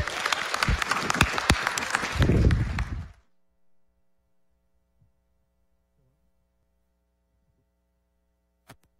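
Audience applause, a dense crackle of many hands clapping loudly for about three seconds, then cutting off into near silence with a faint low hum and one sharp click at the end.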